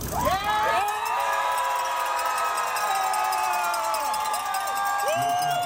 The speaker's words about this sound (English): The news drew wild cheering and applause from a huge crowd gathered for an overnight watch party at Washington Square in downtown Salt Lake City.